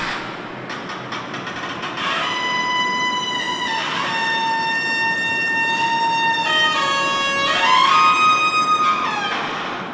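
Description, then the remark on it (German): A poorly oiled parking garage door creaks in a long, high-pitched squeal. The harmonic whine holds steady, then bends and slides in pitch several times, lasting throughout with no voices. “ist eine Tür in einem Parkhaus, die offensichtlich nicht so wahnsinnig gut geölt ist.”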